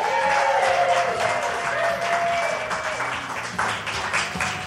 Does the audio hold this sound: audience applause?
yes